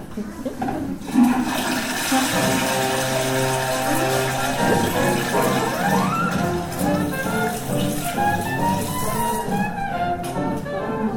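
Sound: toilet flushing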